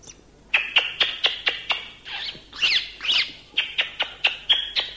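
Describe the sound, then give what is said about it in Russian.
A starling gives a quick run of sharp, high-pitched squeaks, breaking midway into a few rougher, wheezing calls before returning to steady squeaking. It is heard alone, with no talking. “То он пищал, то он хрипел, то верещал козленком, то не путем мяукал он котенком.”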